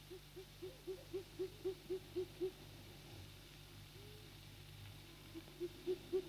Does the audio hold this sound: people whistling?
no